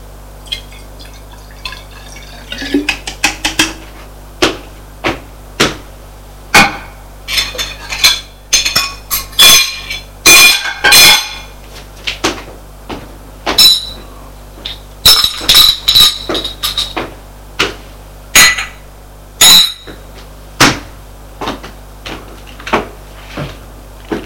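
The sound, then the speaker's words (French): Dishes and cutlery clink and clatter in irregular bursts as a table is cleared after a meal, with sharp glassy taps and scrapes over a steady low hum, no voices. “Marie débarrasse la table.”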